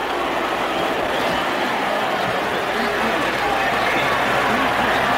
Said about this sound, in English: Delay of the game against Ohio State. It'll be first and goal to go on the 15, and that's the boo from the crowd.